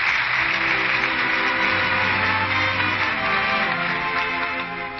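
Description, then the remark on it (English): Loud, sustained applause from the audience of a Lux Radio Theater broadcast, for Merle Oberon, George Brent and Pat O'Brien. A dense, steady roar of many hands clapping holds for the full stretch and eases slightly at the end, with a faint low musical tone underneath. “Your three strong reasons for that applause.”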